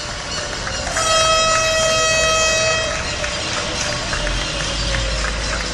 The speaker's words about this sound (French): Mais tous les soirs à 19h, ils continuent d'applaudir. Voici ce que ça avait l'air dans mon quartier hier soir.